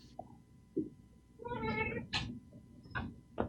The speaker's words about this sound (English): I hear a kitty. I do hear a kitty. He's not mine. He's downstairs. He wouldn't get that close, and he doesn't make that kind of sound. He's pretty quiet.